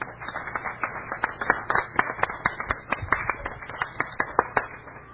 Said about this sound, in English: Thank you. Give her a cheer.